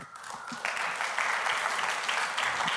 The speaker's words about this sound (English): I don't know why I got an applause, but that's all right.